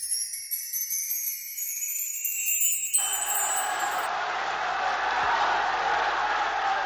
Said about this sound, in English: Prisoners cheering, drowning out the voice of Pope John the 23rd, as he speaks to them behind the bars of a Roman prison. It was Christmas 1958, and in an unprecedented gesture, a pope was standing in their midst offering them words of comfort.